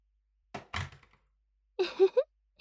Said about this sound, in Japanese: ほら、誰か来ちゃう前に早くこっち入って。ドア閉めてと。